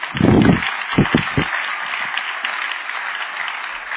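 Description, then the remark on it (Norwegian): An audience claps steadily for a few seconds, a dense, crackling wash of applause, with a few heavier thumps near the start before it settles into an even patter. “Kjøra klapp, kom.”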